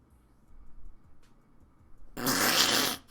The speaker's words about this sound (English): And you laugh with your butt? Yeah, I do. That's why you're. Oh yeah, I actually do. Like, sometimes things are so funny I fart.